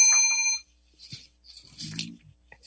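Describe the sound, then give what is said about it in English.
A single bright bell ding, rung to mark a correct answer, rings out loud and clear, its metallic tone sustaining for about half a second before cutting off, followed by faint, brief voices and shuffling. “Give yourself a bell.”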